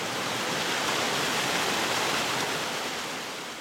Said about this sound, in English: The nonprofit Illinois River Watershed Partnership maintains a lovely woodland sanctuary containing an emerald-colored lake fed by a rushing cold water spring.